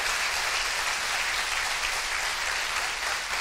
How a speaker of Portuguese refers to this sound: Quantos verdadeiros adoradores temos aqui? Vamos aplaudir ao Senhor.